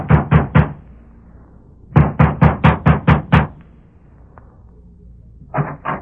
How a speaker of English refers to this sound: Sheriff Ramsey has just dismounted before the ranch house of Alva Carlson and is knocking at the door.